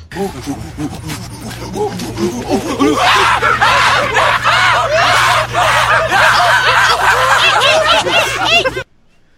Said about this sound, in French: Et je pouvais pas mettre des extraits de 12 Monkeys sans des bruits de singes. C'est sûr. Ouais, ça prend des singes. Voici les singes.